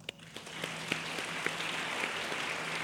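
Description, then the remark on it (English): An audience at a book talk applauds steadily, clapping to show they have a special house they can no longer access; many hands clap together in a dense, continuous patter with a few sharper individual claps standing out, and no one speaks over it. “Clap if there's a house in your life that is really special to you that you can no longer access.”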